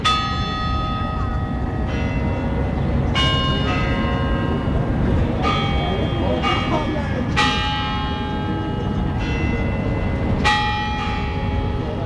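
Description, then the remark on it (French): The Kremlin clock on Red Square chimes the first notes of the national anthem, as it does four times a day, in a slow melody; each bell note is struck clearly and left to ring and fade before the next, over a steady low murmur of background noise. “Sur la place rouge, quatre fois par jour, on peut entendre l'horloge du Kremlin jouer les premières notes de l'hymne national.”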